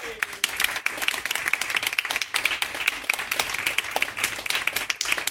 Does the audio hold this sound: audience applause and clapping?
yes